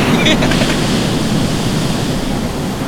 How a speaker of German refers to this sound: Doch anscheinend war er nicht der Einzige, der mit den Wellen spielte.